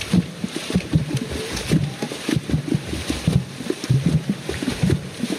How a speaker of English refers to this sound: They were Bayaka pygmies from the Central African rainforest singing. As Sarno would discover, music was everywhere in their lives. Along with their songs, they would drum on trees and even slap at water to create intricate rhythms.